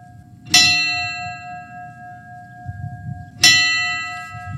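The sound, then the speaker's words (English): Two resonant memorial bell strikes in Buffalo, New York, rung after a reading of victims' names and a moment of silence one year after a shooting, about three seconds apart, each ringing out with a long, slowly fading tone over a low background rumble of a crowd or outdoor space. “In Buffalo, New York, a reading of the names of the victims of a racist gunman 1 year ago, followed by a moment of silence and the ringing of bells.”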